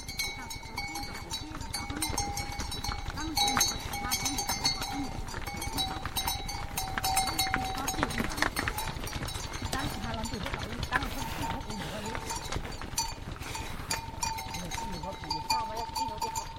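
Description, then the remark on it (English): A herd of bell-wearing buffalo is herded past in the hills outside Sa Pa. A steady jangle of many bells clanks and rings throughout, with shuffling hooves and animal movement underneath at an even, moderate loudness. “Bell-wearing buffalo are herded past in the hills outside of Sa Pa.”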